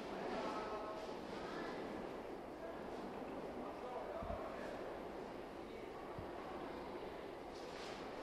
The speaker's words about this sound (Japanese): ただいま到着の電車は急行梅田行きでございます。停車駅は大宮、山陰、桂、長岡天神、高槻市、茨城市、淡路、十三でございます。